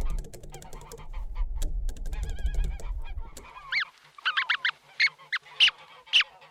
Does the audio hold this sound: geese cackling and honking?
yes